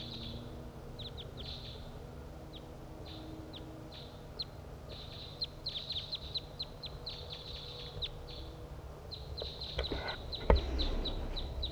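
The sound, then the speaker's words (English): Two wild crossbills, flying from north to south along a ridgetop, with one perched in a nearby tree, call in a series of short, high chirps and chip notes, irregular and fairly faint at first, then busier toward the end, over a steady low rumble with a sharp knock near the finish. “One, two wild crossbills flying from north to south along the ridgetop, and one has perched in the tree nearby.”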